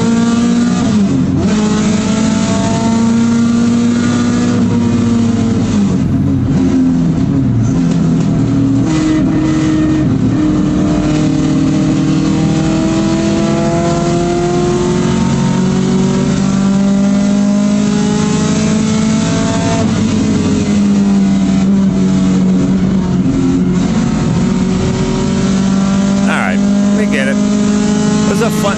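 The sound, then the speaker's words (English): A race car engine drones loudly for the whole stretch, its pitch climbing and dropping as it revs through gears around the track. “Yeah, the car worked good once we got it running.”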